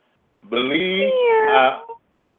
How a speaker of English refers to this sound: Meow.